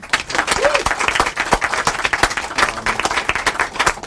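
An audience at an indie bookstore in Kingston applauds three authors, steadily for about four seconds, a dense wash of many hands clapping, with a faint voice briefly heard beneath the clapping.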